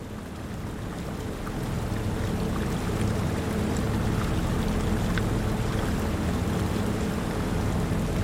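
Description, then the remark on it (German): A steady low rumble of a tourist boat gliding across the water of the Vltava (Moldau) river, with soft lapping and splashing against the hull, continuous, with no voices. “Das leise Plätschern des Wassers und die entfernten Geräusche der Stadt bilden eine beruhigende Klangkulisse.”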